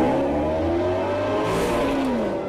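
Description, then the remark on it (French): A car engine revs hard and accelerates at night, its loud, steady whine climbing and shifting in pitch as the car speeds into a tunnel, with no one talking. “Il fonce dans un tunnel.”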